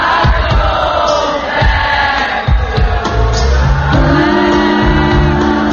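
A large concert crowd roars throughout, many voices shouting and singing together in a dense, loud wash, the audience singing the song's lyrics themselves, with sustained group vocal tones emerging toward the end over low thumping from the venue.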